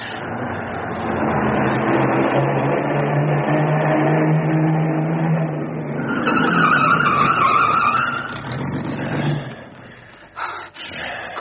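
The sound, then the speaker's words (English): A car skids loudly to a stop, tires squealing in a long screech over a rumbling engine, then the noise cuts off abruptly with a few clunks; the car is being driven in and stopped to hide it, on a bitterly cold day. “We can hide the car in there. Good idea, kid. Drive in there and stop.”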